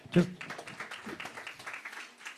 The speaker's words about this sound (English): Amen. Amen. Let's just give the Lord a hand clap because he's worthy.